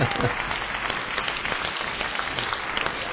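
A steady burst of crowd applause, a dense, even crackle of many hands clapping at a constant loudness for about three seconds, with no voices over it.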